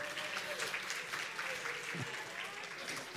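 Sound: round of applause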